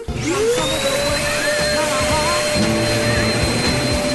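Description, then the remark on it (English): A vacuum cleaner roars, its motor whine rising at the start and then holding steady and loud, while a song recorded during the hoovering plays faintly underneath with singing, mostly drowned out. “So, I've got 8 clips of songs that were recorded earlier whilst I was doing some hoovering.”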